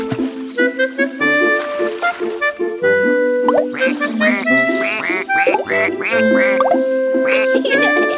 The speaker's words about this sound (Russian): А нам это... уточки мешают. Ага, все крякают и крякают. Не уснуть никак. Ой, они, наверное, голодные.